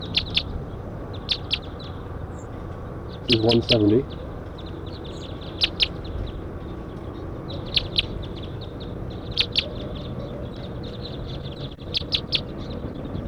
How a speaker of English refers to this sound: Pointing at 170, wild birds are flying around.